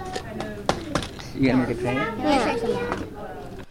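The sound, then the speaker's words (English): A 3-year-old child's high voice imitates a train at the Co-op School, a preschool in Brooklyn, with rising and falling whoo-like calls and breathy chugging bursts over faint background chatter of other children. “That guy sounded a little young to be a train engineer.”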